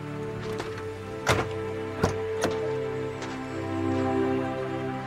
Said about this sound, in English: The sheriff closes the door.